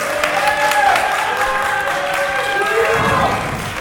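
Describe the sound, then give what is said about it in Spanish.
A live audience gathered at the Jornaicas in Zaragoza for a season 9 recording of the Game Over show bursts into sustained applause, dense steady clapping with scattered cheers and whoops rising over it, loud throughout the few seconds with no speech. “desde las magníficas y maravillosas Jornaicas de Zaragoza, a las cuales ya pido un aplauso grande a toda esta gente que se ha reunido a vernos hoy, lo dicho, en la Jornaica.”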